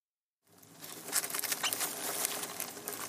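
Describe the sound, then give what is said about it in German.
Dozens of rats living deep inside the ship Belgica rustling and scurrying in a dense, scratchy patter with sharp high squeaks mixed in, starting after a brief moment of silence and continuing busily throughout. No one speaks. “Das Fiepen und Rascheln ist so laut, dass einige kaum schlafen können.”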